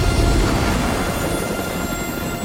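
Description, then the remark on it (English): A helicopter's heavy rotor rumble fills the air, loud and continuous, then eases off slightly as it arcs round and flies away over a ridge of mountains. No voices are heard. “The chopper arcs round and flies over a ridge of mountains until it disappears within the dazzling light of the sun.”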